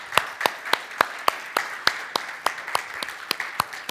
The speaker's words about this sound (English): So today, we are honored to have some of Cub Scout Pack 625 with us today and their families. Could we just give a round of applause and welcome to Cub Scouts Pack 625?